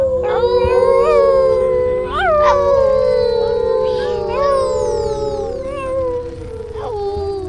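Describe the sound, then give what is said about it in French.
Eerie werewolf howling: long, wavering howls rise and fall in a loud, continuous chorus, several overlapping howls layered together for the whole stretch. “Les loups-garous.”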